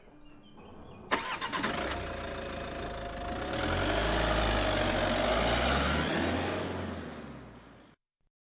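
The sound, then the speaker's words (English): A car engine cranks and starts with a sharp burst, then revs and rumbles steadily, growing louder as it pulls away, before cutting off abruptly. No one speaks. “Aunt Josie and Uncle Bernie get into the car and drive away.”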